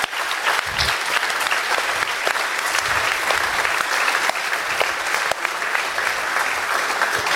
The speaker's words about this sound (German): Das ist zum einen das Linux Hotel in Essen. Einen ganz, ganz großen Applaus für die.